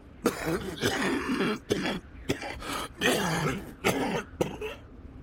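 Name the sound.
man coughing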